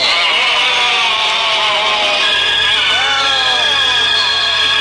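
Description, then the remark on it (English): A crowd reaction sound effect on the radio station the Big 79, following its Thought for the Day joke: many overlapping voices groan and wail together in a loud, continuous swell of wavering, sliding tones that lasts about five seconds. “Notice the crowd reaction to another heavyweight Thought for the Day on the Big 79.”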